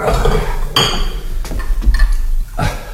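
A cup of cold water clinks and knocks a few times at irregular moments as it is brought, sharp bright taps over a low background rumble, with no one speaking.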